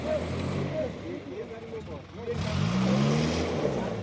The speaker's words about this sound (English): These are the sounds of the Yunan Khoit farmers trying to free a coffee truck that's become stuck in the mud.